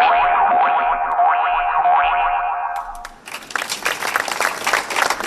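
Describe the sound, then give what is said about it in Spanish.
A sustained, wavering tone with a gently falling pitch holds for about three seconds, then gives way to a burst of dense crowd applause, ending a minute of silence held in Algemesí, Valencia, that continues strongly to the end. “Con los aplausos así ha terminado el minuto de silencio que se ha guardado hoy en Algemesí, en Valencia, por el crimen machista de este miércoles.”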